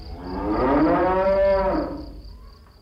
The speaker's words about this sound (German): Was ist denn jetzt los? Warum muhen die Kühe so laut?